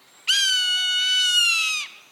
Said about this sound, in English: A soaring Swainson's hawk.